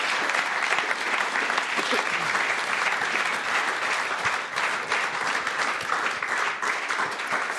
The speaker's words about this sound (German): Gut, an der Stelle, ich glaube, darf es einen großen Applaus für diese Rückkehrer geben.